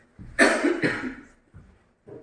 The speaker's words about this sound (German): So, und jetzt muss ich das einmal wegdrehen, damit ich viel husten kann.